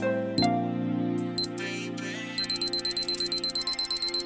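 A clock alarm sounds, marking the start of a timer: a couple of brief electronic beeps, then a fast, steady series of repeated beeps over a sustained low hum, loud, with no talking.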